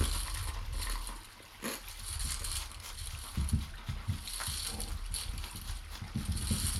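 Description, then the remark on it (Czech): Pages being leafed through, with several crisp, papery flicks and rustles spread over a soft, steady background hiss. No one speaks. “Listování.”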